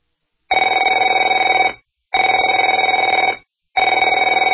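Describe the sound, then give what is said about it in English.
A telephone rings in a radio advertisement about debt, in three long, loud bursts separated by short silences, each ring a steady warbling electronic trill with no voices present. “Afraid to answer it?”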